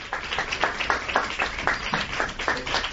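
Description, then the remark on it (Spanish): Steady applause from journalists in a press room after an announcement, applauding Adolfo Suárez and his family; many hands clapping in a dense, crackling patter that holds an even loudness for the whole stretch, with no voices standing out. “Son aplausos tras ese anuncio, aplausos a los que nos sumamos, aplausos a Adolfo Suárez y a su familia.”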